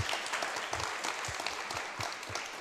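Steady audience applause thanking the person who made the waffles and did the work: a dense wash of many hands clapping continuously at even volume, with a few heavier low thumps scattered through it and no voices standing out.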